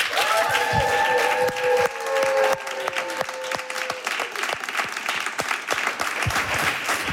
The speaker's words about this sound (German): Einen tosenden Applaus bitte für Gabriel Vittel.